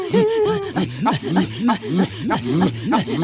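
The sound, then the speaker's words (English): Inuit throat singing, part of a religious chant, from northern Canada: rapid, rhythmic vocal pulses alternating low throaty voiced tones with sharp breathy bursts, repeating in a steady, fast pattern for a few seconds with no ordinary speech. “It's actually part of a kind of a religious chant done by the Inuit.”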